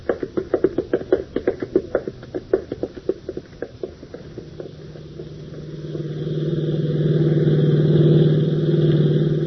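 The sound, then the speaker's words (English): A car engine chugs with a rapid, uneven knocking at first, then settles into a steady, rising drone as the car drives on in heavy traffic, fairly loud with no voices. “keep your eyes on the road. Traffic's awfully heavy.”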